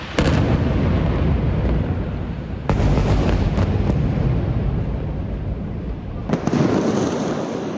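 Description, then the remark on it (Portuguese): A building in Gaza collapsing after being hit by a missile: a loud, continuous roaring rumble throughout, broken by several sharp blast-like cracks near the start, in the middle and toward the end. No voices are heard. “O áudio que você ouve agora é do desabamento de um prédio atingido por um míssil em Gaza.”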